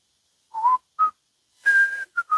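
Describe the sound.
A woman whistles a song: a short tune in clear, pure notes, a few brief phrases, then a longer held note and two quick closing tones, fairly loud with no talking.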